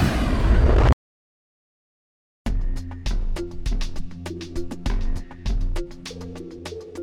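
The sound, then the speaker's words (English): A ship plummets into trees after a core failure and crashes in an explosion that bursts out with a heavy rumbling roar, cuts off abruptly into silence, then rhythmic percussive music begins. No one speaks. “She never even felt the explosion.”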